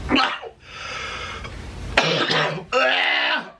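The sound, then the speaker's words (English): A CPAP machine worn over a man's nose runs with a steady airy hiss, broken by a few loud, raspy breathing and cough-like bursts, with no clear speech. “And you can hear the CPAP machine he is wearing over his nose in this video.”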